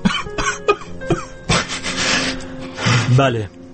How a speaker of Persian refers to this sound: گریه کن، گریه قشنگه، گریه مال دل تنگه.